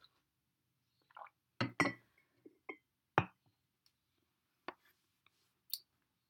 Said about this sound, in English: I'm just drinking a coffee here, so I hope you've got your coffee or a tea or a glass of wine, whatever time it is for you.